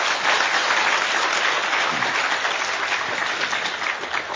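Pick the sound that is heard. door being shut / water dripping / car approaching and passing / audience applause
audience applause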